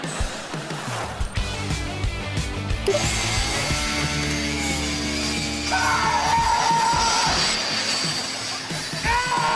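A loud chainsaw grinds steadily against a metal safe as someone tries to cut it open, its engine pitch rising and falling as it strains, with harsh high scraping throughout and a brief shout partway through.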